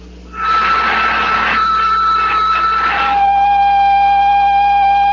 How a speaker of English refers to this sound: I'm going to pump out the lock.